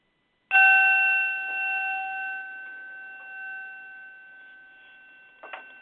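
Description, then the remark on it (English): A single ritual bell is struck once to begin and rings out with a clear, sustained tone that slowly fades over several seconds, heard alone with no voices. “And with the bell, we begin.”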